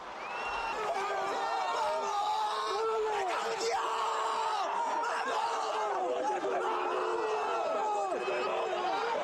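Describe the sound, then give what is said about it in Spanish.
Loud, excited shouting of goal celebrations at a football match in Mallorca, with a coach's voice yelling over a clamour of cheering, overlapping voices that keep going without a break through the whole stretch. “El primero es la consecución del primer tanto de Aran Barry, al que más escucha gritar es a ti”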